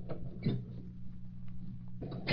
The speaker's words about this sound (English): Let's look at it with a magnifying glass. Yes, I get glass from cabinet.